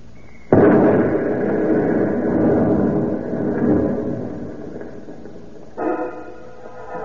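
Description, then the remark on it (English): A truck loaded with explosives blows up on a road with a sudden, loud blast, followed by several seconds of heavy rumbling and crackling that slowly fades. A steady droning tone rises near the end. No one speaks. “Hey, we shouldn't go near that exploded truck, Mr.”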